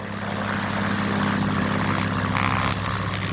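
A single-engine Cessna propeller plane, the EPA's ASPECT (Airborne Spectral Photometric Environmental Collection Technology) aircraft that maps chemical plumes from above in real time, drones steadily overhead, its low buzzing hum holding an even, fairly loud level throughout with no voices present.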